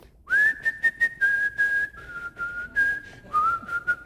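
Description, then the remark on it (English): A person whistles a simple melody, a clear sustained tone stepping between a few held notes with soft breathy puffs, no talking. “But you'll recognize this tune. I got to whistle it.”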